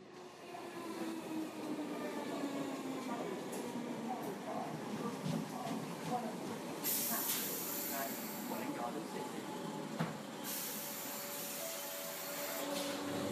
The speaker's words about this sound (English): I'm whizzing down on a train to London for work.